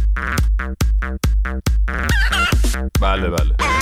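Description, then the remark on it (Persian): A hen clucks loudly, first a quick steady run of about seven short clucks, then a couple of longer, warbling squawks. “بفرمایید، خواهش میکنم، بفرمایید، منتظری ما یه قدقدی چیزی.”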